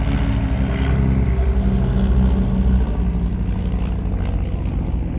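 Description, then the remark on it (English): A vintage 1930s Hornet Moth biplane at a flying display: its propeller engine drones loudly and steadily, a low throbbing hum with layered harmonics that holds for several seconds without a break, and no voices over it. “and that nostalgic age of the 1930s just wonderfully demonstrated by the Hornet Moth there.”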